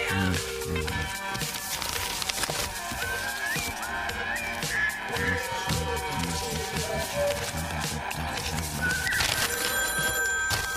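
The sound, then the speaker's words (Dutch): A telephone rings with an incoming call, its bell repeating through a dense, busy mix of background sound and faint voices, fairly loud throughout. “ik wil geen telefoon binnenkomende telefoontjes hebben. Die telefoon staat hier alleen maar in het kader van mijn rubriek.”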